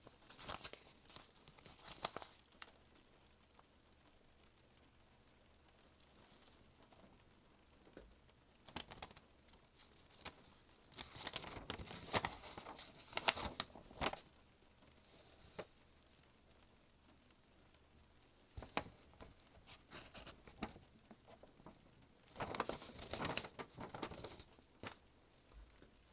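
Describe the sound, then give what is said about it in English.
Crisp paper rustling and crinkling as a piece of paper is handed over and opened, in several bursts separated by quiet pauses, with softer scratchy sounds between, like a pencil scribbling on paper. No one speaks. “Okay, I'm gonna hand you this piece of paper now. And I'm not gonna look at you when you open it, okay?”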